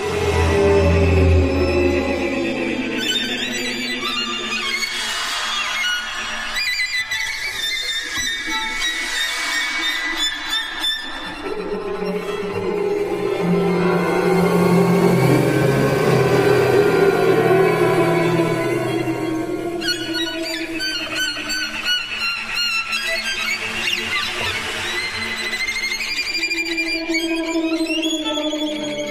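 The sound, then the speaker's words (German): Trombones played with a special technique make breathy, whooshing wind noises, sliding up and down in long swells within dark, dense music that rises and fades over about half a minute, with no talking. “Also man hört, das sind wirklich wahrscheinlich auch die Windgeräusche, die du meinst, die durch Posaune sind.”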